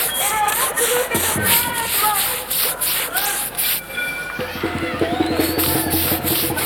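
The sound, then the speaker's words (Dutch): Posters being pasted onto the Dom with paste from a bucket: steady scraping and rubbing strokes of a brush smoothing paper, continuing throughout, with people's voices chattering in the background. “Is dat verboden? Op de dom plakken met affiches?”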